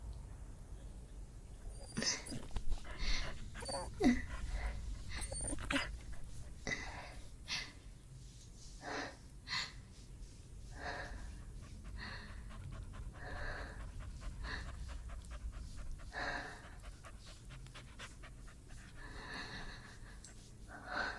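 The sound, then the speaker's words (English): A dog pants in quick, rhythmic breathy bursts for about twenty seconds, with a faint whimper slipping in near the start over a low rumbling background. “Thankful for dog showing kindness.”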